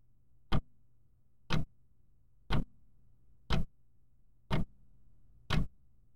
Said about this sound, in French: Dans l'entrée, une gigantesque horloge en bois d'ébène égrène les secondes, son pendule se balançant avec un tic-tac sourd, lourd, monotone.